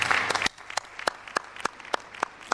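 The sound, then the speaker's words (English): Standing ovation in parliament for Jerry Wood, the member for Nelson: a dense burst of clapping from many hands fades within half a second into scattered, sharp single claps at an uneven pace until the end. “A standing ovation for Jerry Wood.”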